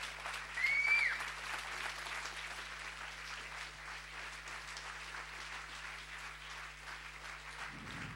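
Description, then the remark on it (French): Audience applause welcoming the writer Éric-Emmanuel Schmitt, a steady wash of many hands clapping at moderate loudness, swelling briefly near the start before settling into an even patter with no voices over it. “On accueille et qu'on applaudit.”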